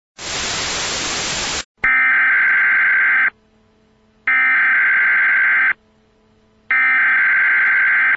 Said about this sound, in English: But there are also other things that cause a TV signal to have static. One of them is the program goes away and then the emergency broadcasting signal shows up.